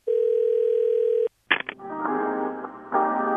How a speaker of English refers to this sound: Ah, hold music again. Well, now it appears there's an app for that. It's called Fast Customer, and it waits on hold for you.